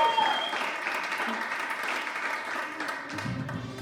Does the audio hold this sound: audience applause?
yes